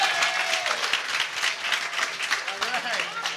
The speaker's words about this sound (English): Can everybody have a big round of applause for our producer, the executive producer